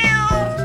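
A single cat meows clearly, a short tonal cry with a slight pitch bend, heard alone with no talking.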